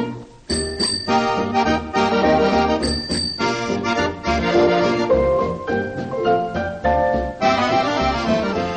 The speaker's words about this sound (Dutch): Als ik tweemaal met mijn fiets bel, nou dan weet je het wel, nou dan weet je het wel. Als ik tweemaal met mijn fiets bel, dan betekent dat kom snel.